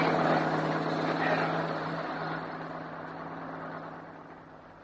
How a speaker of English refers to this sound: Why we didn't turn over going around corners on that drive, we'll never know. It was nearly impossible to stand up as the truck lurched and skidded all over the road.